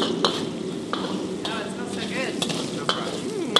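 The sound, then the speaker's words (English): Hot chilies, Sichuan peppercorns, ginger, garlic and scallions stir-fry in a wok on the fire: a steady, crackling sizzle with sharp clicks and scrapes of a spatula at irregular moments, and brief murmurs of a voice underneath. “I toss in the hot chilies and Sichuan peppercorns, then ginger and garlic and scallions. Stir fry, on the fire, stir fry.”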